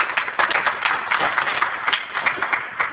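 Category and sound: crowd, round of applause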